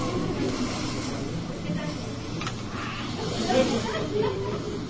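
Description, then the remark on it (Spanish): Wind howls on a calm, quiet night in a steady, breathy whoosh for about five seconds, a constant hiss-like roar that swells slightly near the end, with no voices over it. “solo con el aullar del viento.”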